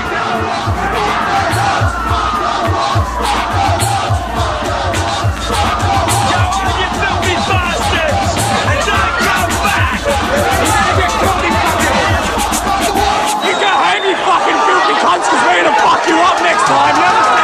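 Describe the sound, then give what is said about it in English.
A large, agitated crowd of mainly young people, gathered at Cronulla in Sydney's south, Australia, during racial violence, shouts and yells over each other in a dense, continuous roar, with individual raised voices and chants breaking through, loud and sustained throughout. “Large numbers of mainly young people had gathered to, in their words, reclaim Cronulla Beach from gangs of youths”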